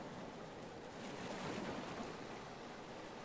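A steady wash of ocean surf rushes continuously on a beach, swelling slightly in the middle as a wave rolls in and breaks, with no voices over the roar.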